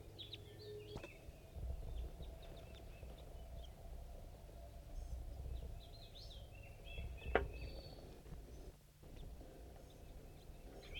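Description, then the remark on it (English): Three small birds, at least one a juvenile, chitter from a pine tree above, with scattered thin high chirps coming in brief bursts over a steady low outdoor rumble. There is one sharper tick partway through. “Birds are chittering above.”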